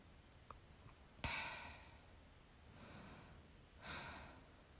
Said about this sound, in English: Oh, that's a big yawn. Are you sleepy?